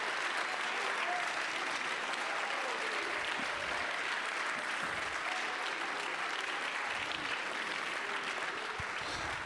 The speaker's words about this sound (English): Let's clap our hands, lift our voice, and bless his name.